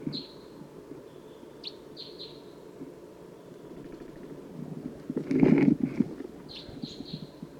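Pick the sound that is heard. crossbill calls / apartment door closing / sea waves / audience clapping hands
crossbill calls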